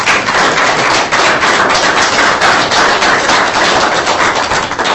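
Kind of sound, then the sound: crowd, round of applause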